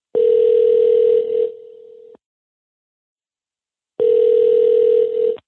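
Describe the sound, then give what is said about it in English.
A steady, buzzing telephone tone from an outgoing call sounds twice, each burst lasting over a second with a quiet gap of about two seconds between them, clear with no talking. “This episode begins with a phone call.”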